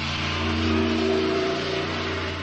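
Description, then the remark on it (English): A truck engine rumbles loudly and steadily, its low droning hum swelling slightly as it passes, with no other sounds over it. “Now, I can't hear you for the truck.”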